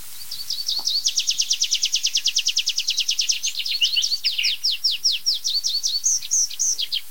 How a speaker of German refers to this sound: Und das war so eine schöne Abschlussstrophe. Sehr verschnörkelt, noch eins draufgesetzt am Ende. Mit Zia-Zia drin, klassischer geht's nicht. Da darf ich euch vorstellen, mein lieber Freund, der Baumpieper.